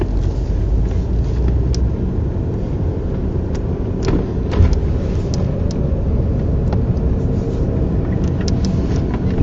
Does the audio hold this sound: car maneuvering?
yes